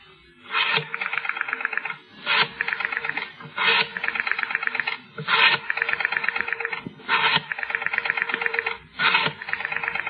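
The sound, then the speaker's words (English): A telephone is picked up, then its rotary dial is turned and whirs back five times in a steady rhythm, each return a rapid ratcheting clatter, clear with no voices. “The bedside clock showed 8 a.m., but she knew it sometimes ran slow, and so she picked up the phone.”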